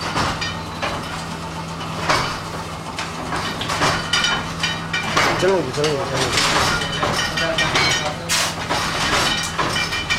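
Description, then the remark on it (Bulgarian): A linotype printing press runs steadily, a dense mechanical clatter of repeated clanks and metallic knocks over a constant low hum and hissing. The noise stays loud and even throughout, with no talking. “Разбира се, в модерните времена линотипа почти го няма, а звука на печатната книга е по-скоро този на офсетната машина.”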